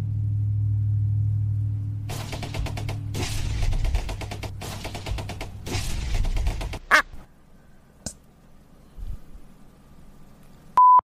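A big, heavy truck rumbles past outside, its loud, low engine drone mixed with rattling, honk-like bursts before fading away, followed by a short electronic beep at the end.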